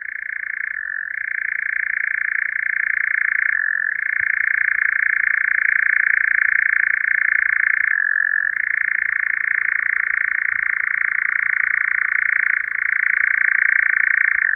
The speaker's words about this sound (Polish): Zanim się pożegnamy, posłuchajmy pięknego śpiewu lelka nagranego rok temu w czerwcu w nocy po godzinie 23 w Holandii w okolicach Utrechtu przez niejakiego Josta van Bruggena. Nagranie pochodzi ze strony xenocanto.org.